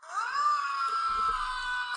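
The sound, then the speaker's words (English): In a movie clip, Tom Cruise lets out a single sustained, intense scream lasting about two seconds, loud and strained with a rising then steady pitch, with faint low rumble underneath. “Scream.”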